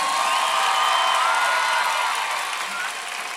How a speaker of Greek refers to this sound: Δυνατό χειροκρότημα να ζεσταθεί.